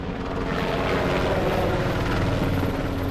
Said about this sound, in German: Und in Rostock haben diese Reservisten eben zusammen mit der Polizei geübt. Da sind auch Hubschrauber über uns geflogen.